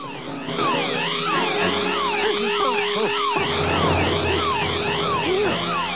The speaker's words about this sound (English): Suddenly, a ceiling tile comes loose, and as Wallace swings precariously, the grabbing arm breaks the laser beam. The alarm wakes Wallace up.